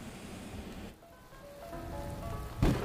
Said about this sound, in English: So it's beautiful little majestic keys with like the call of thunder and stuff happening in the background. Just really beautiful.